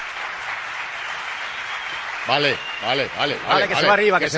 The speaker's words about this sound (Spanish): Pero espera, Luis del Val, ya verás, te van a saludar el de Jaén. Escucha, escucha este aplauso. Escucha, Luis, escucha.